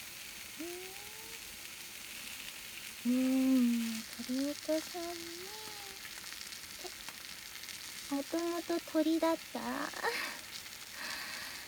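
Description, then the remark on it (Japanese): Steady sizzling and crackling of chicken pieces frying skin side down in a frying pan runs throughout, with a woman's voice talking over it in several bursts. “フライパンで炒めるよー。”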